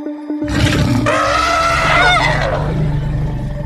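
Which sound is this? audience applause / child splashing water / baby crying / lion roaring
lion roaring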